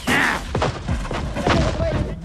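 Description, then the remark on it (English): Several sharp, loud gunshots crack back and forth in quick succession as men from a hostile vessel swing across to board a captured boat, mixed with shouting voices and a deep booming rumble underneath. “Gunfire is exchanged as men from the hostile vessel swing across to the boat they have captured.”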